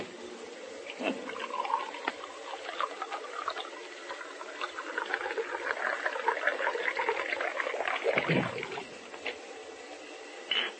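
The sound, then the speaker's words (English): A drink pours steadily into a glass for several seconds, a continuous splashing and trickling with a brief louder gurgle near the end, no voices. “Pour me a drink. Sure, Rodney. Say when.”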